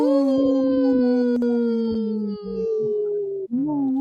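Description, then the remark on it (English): A wolf howls in one long, loud, sustained note that slowly sinks in pitch, breaks briefly, then starts rising again. It is prominent, with no talking. “The wolves say no.”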